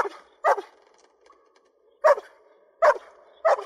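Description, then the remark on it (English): A dog in a film scene fear-barks in short, sharp bursts, five high-pitched, strained barks spaced unevenly over a few seconds, sounding anxious and desperate, with a faint whine between them. “Now, the most convincing fear acting I saw in this movie was done by a dog, and it impressed me, and I recorded some of it because this is fear barking, and it really got me.”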